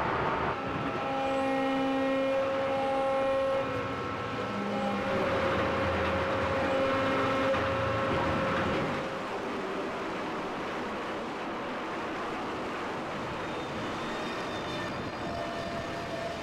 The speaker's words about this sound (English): pulsing generators and the main motor and diesel engines that keep the shaft turning and keep us breaking ice.